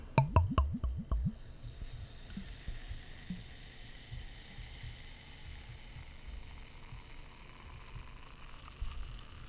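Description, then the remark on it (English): A sour beer is poured into a glass: a quick burst of glugging splashes at the start, then a soft, steady fizzing hiss that continues quietly for several seconds. “Let's give it a pour.”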